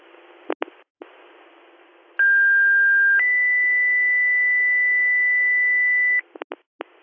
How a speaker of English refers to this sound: Do you want some more tones or mutual aid? Tone again for a driver, please.